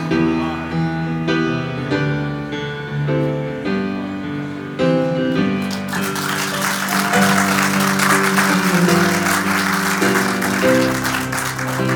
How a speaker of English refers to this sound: There is great excitement as the author of Science of Mind and founder of Religious Science, Dr. Holmes, walks out on the stage to great applause.